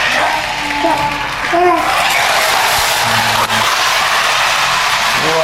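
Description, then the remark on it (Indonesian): A child's toy car rattles and whirs steadily across a hard surface, ending in a brief knock as it bumps into an aunt, with faint children's voices in the background. “Nabrak tante.”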